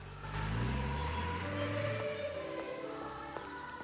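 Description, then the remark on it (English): A car engine hums low and steady as a woman gets out of the car, then rises in pitch as the man driving accelerates and drives off, with a faint whine over the rumble and no voices. “He grins to himself and kisses her other cheek before she gets out of the car and he drives off.”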